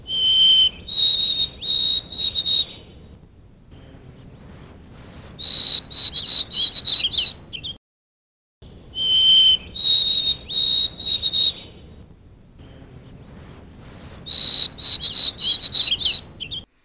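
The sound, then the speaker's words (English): A white-throated sparrow sings its clear, high whistled song twice: steady pure notes that step in pitch, then a run of quick repeated notes, the triplet ending heard as 'Oh, sweet Canada, Canada, Canada.' Loud, with a short pause between songs. Recorded in the 1990s. “But 20 years ago, birders started noticing that some of our white-throated sparrows were messing with our Canada, Canada”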